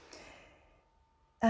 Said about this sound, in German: Entschuldigung, ich muss kurz umblättern.